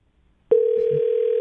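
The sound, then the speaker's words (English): After a moment of quiet, the steady electronic ringing tone of an outgoing phone call to a surgeon starts abruptly and holds at an even, clear level, with no one speaking. “Oh, he'll answer. I know he will.”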